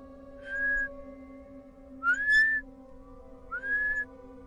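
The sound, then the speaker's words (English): Three short rising whistles from a person walking through a cemetery after sundown, each a clear pure tone sliding upward, spaced about a second and a half apart over a low steady hum, with no talking. “My ex at the time dared me to whistle while we walked through the cemetery, so I whistled.”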